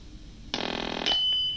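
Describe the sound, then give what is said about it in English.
A telephone rings in one short, harsh, buzzing trill lasting about half a second, then a thin, steady high tone lingers briefly afterward. No one speaks. It is another incoming call to a radio call-in show. “Hold on, another phone call.”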